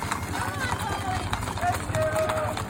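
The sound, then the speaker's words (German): A dense, continuous clatter of about 100 horses trotting closely packed past a guest ranch in Wyoming and down a hill in the evening at sunset, steady, with a few faint calls and whistles rising above the rumble. “100 Pferde dicht an dicht trappeln am Anwesen vorbei einen Hügel hinunter.”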